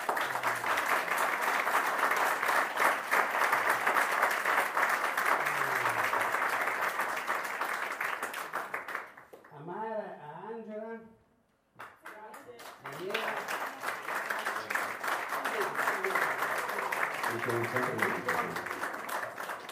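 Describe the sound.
A crowd bursts into sustained, loud applause for the director of the group, dense rapid clapping that briefly gives way to a voice speaking, then swells again with talking mixed in beneath the clapping.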